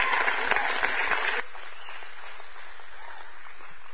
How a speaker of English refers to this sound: a big round of applause for that word. Woo!